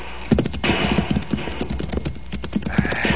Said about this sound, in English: Jump your horse over, amigo. I think the horses can just about make it.